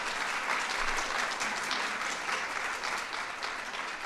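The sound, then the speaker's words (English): An audience at the White House claps steadily for about four seconds for the parents and grandparents of recipe contest participants, a dense, sustained round of applause from many people, fairly loud and filling the space without any talking over it. “So let's give our parents, grandparents a round of applause.”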